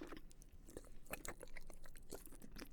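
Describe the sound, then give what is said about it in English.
Quiet wet slurping and sucking mouth sounds, with irregular smacking clicks and moist bursts scattered over a few seconds, and no talking. “All the lovely slurps and wet sucks?”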